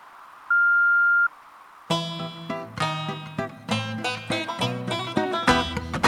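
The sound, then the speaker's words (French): A single steady answering-machine beep, clear and fairly loud, holds for under a second over faint hiss; after a short pause, bright full-band music starts up and continues. “Bonjour, vous êtes bien chez Dieu le Père, et là je suis absent pour l'instant, mais n'hésitez pas à me laisser un message après la Bible sonore.”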